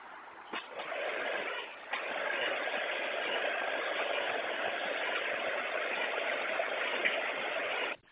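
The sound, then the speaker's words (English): A stalled car's engine, stopped in the middle of a freeway, turns over with a couple of quick surges on a restart, then settles into a steady, rumbling idle that drones on evenly to the end, sounding thin and hissy as if heard over a radio. “It has it started.”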